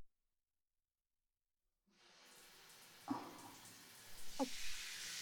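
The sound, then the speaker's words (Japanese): After a moment of silence, a steady hiss of running water from a shower spray starts up, lightly rinsing dirt off the scalp before shampooing, with a couple of brief splashy bursts as the flow shifts. “それでは、最初にシャワーで軽く頭皮の汚れをきれいにさせていただきますね。”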